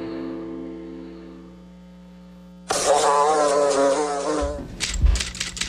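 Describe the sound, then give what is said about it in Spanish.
A steady, droning fly buzz, the identifying sound of the program El Ojo de la Mosca, hums on its own for a few seconds, then a loud rushing burst of noise sweeps in and swallows it, ending with a few low thumps. “Identifica el zumbido de El Ojo de la Mosca.”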